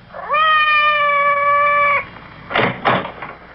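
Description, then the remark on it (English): Madame's cat, Francois, lets out one long, drawn-out meow outside the door, loud and steady, then falls silent before two brief rough bumps or scrapes, like something against a door. “Did you hear anything? Outside the door. It sounded like Madame's cat, Francois.”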